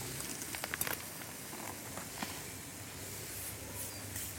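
Aubergines sizzle in a hot pan as they are flipped, air escaping from them, with a steady, bright hiss scattered with sharp little pops and crackles, especially early on, continuing without any talking.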